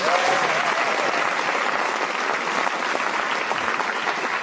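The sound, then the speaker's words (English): Sustained studio audience applause welcoming actors Gordon Kennedy and Mira Sayal: a steady, dense wash of many hands clapping at an even, loud level for several seconds, with no speech over it. “But those of you who are listening will now hear the studio audience welcome two people from the world of reading scripts for money, Gordon Kennedy and Mira Sayal.”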